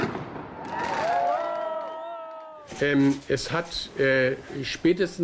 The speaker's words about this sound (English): City police say about 1,000 men between the ages of 18 and 35 were in the square that night, many of them drunk and shooting fireworks.